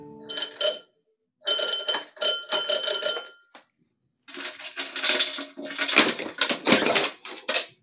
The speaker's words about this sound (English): Eichelberger's address proved to be a seedy-looking hotel. Upstairs, over a Chinese laundry. At the head of the stairs was a door marked manager. I rang the bell.